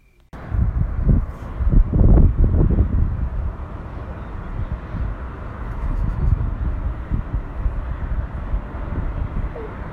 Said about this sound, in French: J'ai enregistré les sons de cette nuit parce que j'aime le silence et le vent léger.